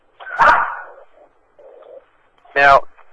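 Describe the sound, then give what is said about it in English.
A dog barks twice, two loud, sharp barks roughly two seconds apart, with a faint muffled murmur in between, heard in the background of a participant's phone line during a recorded webcast. “I've got somebody who's got a dog in the background.”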